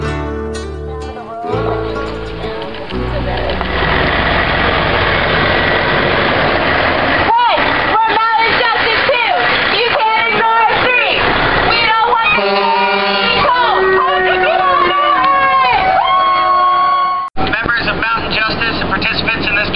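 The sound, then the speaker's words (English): A crowd of protesters shouting and talking at a road blockade on Cayford Mountain over the steady rumble of an idling truck engine, loud throughout, with overlapping calls rising and falling amid the noisy commotion. “Here's what things sounded like at the blockade.”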